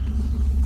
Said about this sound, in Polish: Budynek zawalił się pewnie przez tę eksplozję.